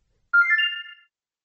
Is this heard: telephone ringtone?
yes